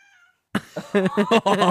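cat meowing

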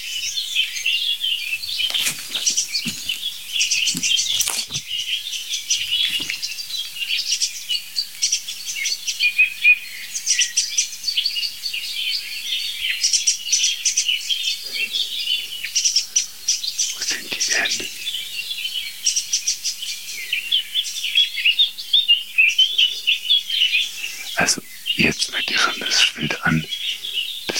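song thrush singing

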